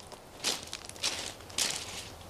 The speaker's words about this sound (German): Und nun sieht man es auch schon zwischen den Bäumen des Waldes hindurch. Das Grau der Steinfelder. Und plötzlich machen auch wir mit jedem unserer Schritte diese markanten Geräusche.